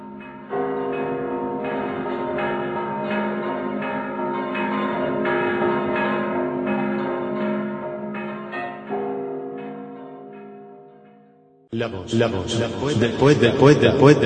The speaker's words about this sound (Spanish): Campanas, clamorosas campanas de mi pueblo, lejanas campanas, ¿cómo parece que os estoy oyendo?